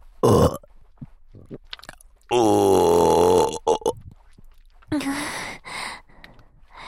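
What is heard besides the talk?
burping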